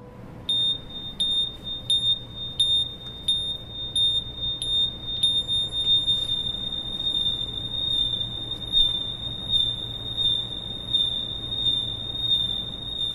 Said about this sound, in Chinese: 手机，把手机绑在一条绳子上，再加上一个免费的 APP， 示范了都普勒效应的实验。我们听到这个 APP 在发出几声哔哔的声音之后，开始发出单一频率的长音，这时候赵老师开始甩动手中的绳索，单一频率的声音立即发生了变化，这是怎么回事呢？